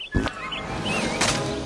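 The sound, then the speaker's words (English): A bird holding a cupcake squawks in two harsh, raspy bursts, one at the start and another near the end, with shrill chirping calls in between, fairly loud. “Hey, that bird's got a cupcake. Drop it, beakhead!”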